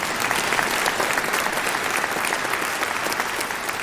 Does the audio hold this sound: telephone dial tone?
no